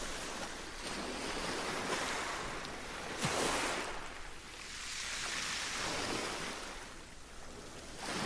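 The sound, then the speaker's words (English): Ocean waves wash onto the shore in steady, rolling surges, a broad hiss swelling and receding about every few seconds, fairly loud with no voices present. “And as you stand here now, looking out at the ocean, just taking the beauty of it all, all that the ocean has to offer you.”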